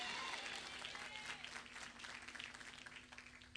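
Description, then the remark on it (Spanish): An audience at a congress applauds in a dense, steady wash of clapping that fills the whole few seconds, loud at first and thinning slightly toward the end, with a faint whistle early on. “Gracias por ese aplauso.”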